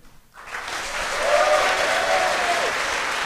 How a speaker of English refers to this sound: Some cheers there.